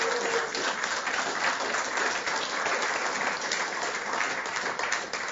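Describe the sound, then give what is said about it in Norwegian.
An audience at a Sunday meeting applauds a man who led the meeting for the first time. A dense, even wash of many hands claps steadily for several seconds at a constant loudness, with no voices rising above it. “Jeg synes han har vært en klapp, ja.”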